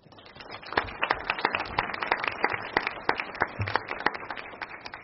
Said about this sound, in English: Like a huge round of applause for her, because without her, none of this would have been possible.